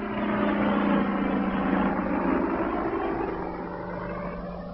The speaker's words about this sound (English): Just a minute, listen. Quick, lie down. Keep still, it's a helicopter.